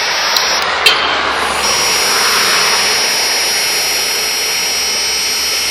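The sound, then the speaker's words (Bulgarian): A Dräger breathalyzer used in a roadside police alcohol check emits a steady, high-pitched continuous tone over loud, rushing breath noise, preceded by two brief clicks near the start; the tone holds unbroken for several seconds with no talking. “10 секунди продължи тон без запрекъснато.”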